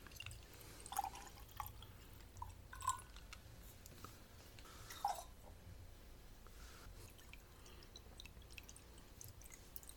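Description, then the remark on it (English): Water is free-poured, without a spoon, into a drink in a few sparse, distinct drips and soft plinks over faint background hiss, quiet, with no talking. “I think we're just going to free pour.”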